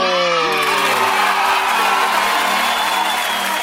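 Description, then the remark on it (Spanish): A crowd applauds and cheers loudly and steadily, with a few rising whoops and yells standing out at the start before blending into a continuous roar of clapping. “¡Aplauso!”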